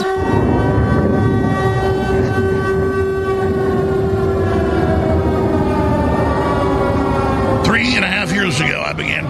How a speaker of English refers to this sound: Sirens at the start of almost every show, telling you that real air raid sirens would soon be sounding